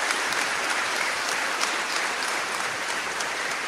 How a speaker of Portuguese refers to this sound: Palmas e a nossa homenagem para todas as mães.